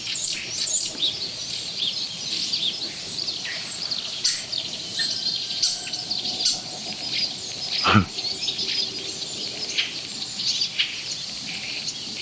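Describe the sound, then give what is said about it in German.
Starling mimicking water bird calls: a busy run of high, short chirps and twitters repeated throughout, over a steady insect-like buzz, with one sharp crackle partway through, the starling's typical electrostatic crackle. “Ja, was für ein Wasservogel war das eben.”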